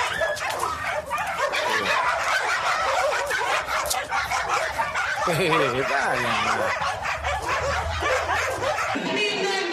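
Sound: small dog barking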